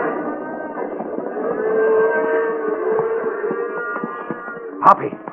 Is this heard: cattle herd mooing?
yes